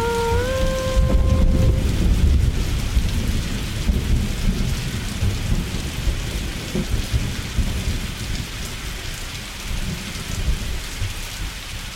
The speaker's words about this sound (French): Es regnet, sagt das Fensterglas.